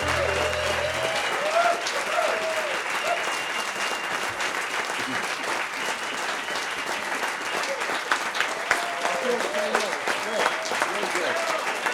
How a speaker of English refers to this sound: So if you keep applauding, we won't have to do song sessions. Okay, all right. See, I thought you would have applauded a little longer than that.